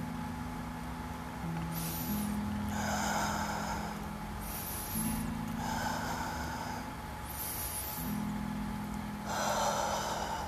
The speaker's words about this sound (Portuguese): Vamos puxar três respirações profundas.